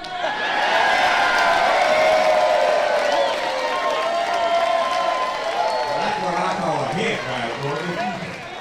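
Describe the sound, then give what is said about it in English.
A large street crowd cheers and applauds loudly after an old man leaning on a cane yanks the dainty off the ground and tosses it down the street, a dense sustained roar of shouts and clapping that eases slightly toward the end as a few deeper voices come through. “The crowd wasn't expecting that.”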